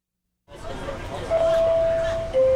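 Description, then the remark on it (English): City streetcar doors close with a steady warning tone over a low hum, while the lunch-rush crowd of passengers chat in an indistinct, continuous babble. “The doors close as the regular lunch crowd settles in on the streetcar.”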